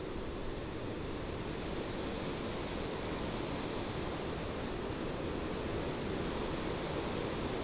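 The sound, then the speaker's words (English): A raging gale roars over an ancient drover's path in a steady, dense wall of rushing noise, loud, with no let-up and no voices over it. “And normally, even on a windy day, this is very quiet, but we have such a raging gale today, one could almost be on a cliff walk or by the sea.”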